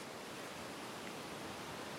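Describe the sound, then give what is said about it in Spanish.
A steady, unbroken hiss of ocean surf washing on a beach, with no distinct individual wave crashes, fairly soft and continuous throughout, with no voices. “está de nuevo en la playa y la chica sale del agua con una tabla de surf.”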